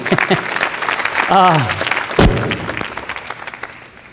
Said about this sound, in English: That's good. Yeah, we ought to applaud that too.